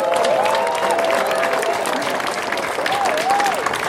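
Loud, sustained applause from an audience fills the whole clip, a dense steady wash of clapping with some cheering and whistling rising above it.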